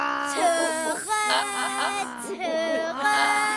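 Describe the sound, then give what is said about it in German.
Zoo animal calls: loud, high, wavering whining cries that rise and fall in pitch, overlapping almost without pause for a few seconds, with no one talking. “Den Elefant könnte man hören, einen Tiger, eine Schlange, vielleicht auch noch ein paar Affen.”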